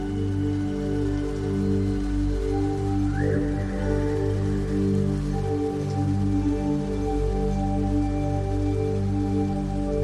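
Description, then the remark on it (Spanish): Steady rain falls in a continuous, even wash, with a low rumbling undertone of a storm beneath it and no voices. “con el sonido de la naturaleza, con la acogedora tormenta que te recuerda que este es un lugar seguro.”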